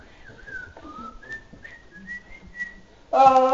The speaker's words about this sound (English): Yeah, I want you tomorrow go to work and have a big old smile and be whistling.